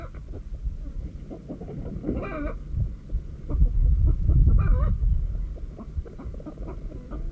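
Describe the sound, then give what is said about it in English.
An old hen that has broken its eggs gives two short, throaty clucking calls a couple of seconds apart over a steady low rumbling background with no talking. “That old hen done broke his eggs there.”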